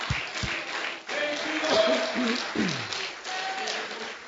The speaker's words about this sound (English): Let's stand. Oh, hallelujah. Let's clap our hands and give God thanks.